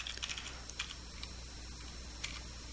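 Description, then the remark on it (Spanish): Quiet, quick computer keyboard typing of a directory services restore mode password while adding a domain controller, a short burst of clicky keystrokes followed by a few isolated taps, with a steady low hum underneath and no voices. “Vamos a poner una contraseña aquí.”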